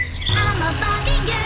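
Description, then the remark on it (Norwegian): A common blackbird perched on a house roof sings a short run of clear, fluting whistled phrases that rise and fall in pitch, over a low, steady background rumble. “Det ikke alle svarttroster som høres slik ut, men den sangen her synger de mistok ganske ofte.”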